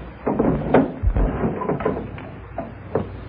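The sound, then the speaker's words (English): Wooden dresser drawers slide open and shut amid a clatter of knocks and rustling as a man takes his things out of them, several short irregular bumps and scrapes at moderate loudness with no talking. “Kenny goes to a dresser and starts taking his things out of the drawers.”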